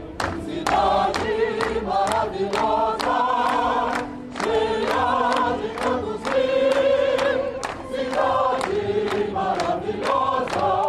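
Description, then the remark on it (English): A theater crowd in Rio joins a chorus singing Cidade Maravilhosa (Marvelous City), Rio's de facto anthem, many voices carrying a sustained melody together over a steady, punchy rhythmic beat, loud and continuous throughout with brief dips between phrases. “Back at the theater, the chorus launches into Cidade Maravilhosa, or Marvelous City, Rio's de facto anthem, and the crowd joins in.”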